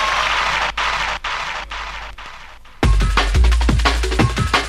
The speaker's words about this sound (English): All of us are one people, singing our music, popping our finger, and doing our thing. Let's give ourselves a great round of applause.